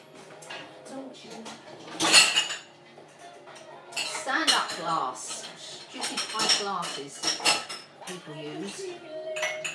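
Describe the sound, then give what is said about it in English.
Plastic drinking cups for squash, fizz or water fall over, clattering and knocking together in several sharp bursts, with a loud clack near the start and more rattling after, while someone talks underneath. “Mostly for squash. Fizz or water. They fall over easily.”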